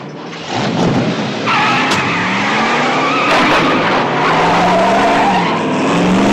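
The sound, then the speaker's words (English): A car engine roars loudly while tires screech and skid in long, wavering squeals, the vehicle swerving hard for several seconds with no one speaking. “I think better when I'm driving.”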